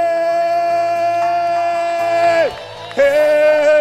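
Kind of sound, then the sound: crowd, audience cheering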